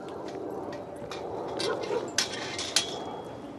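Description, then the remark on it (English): Several dogs bark and yip at a dog park, with a couple of sharper barks standing out over a steady outdoor hum and faint background voices. “I am at the dog park with my buddy Troy.”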